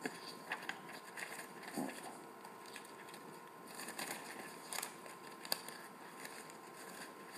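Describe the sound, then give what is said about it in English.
Soft, crackly rustling of paper sheets being shuffled and turned while searching for the right page, with a few sharper crinkles standing out, fairly quiet, continuing steadily with no voices. “Just find my right page.”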